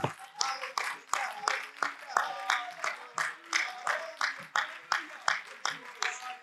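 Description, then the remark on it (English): An audience claps hands together in a steady, rhythmic beat, roughly two claps per second, with voices faintly audible underneath throughout, clapping to give God praise after a prayer. “Oh, one more time, could somebody clap your hands and give God praise?”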